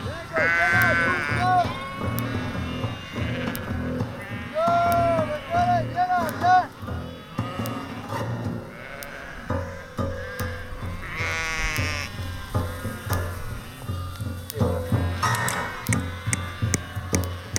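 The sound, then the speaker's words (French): A large flock of ewes on a sheep farm on a plateau bleats continuously, many overlapping calls forming a steady din, with a few louder bleats rising above the chorus. “De présent sur le site, il y a entre 600 et 800 brebis à peu près à l'année.”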